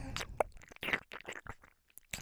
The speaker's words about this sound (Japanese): 食べてる歯ごたえすごいな。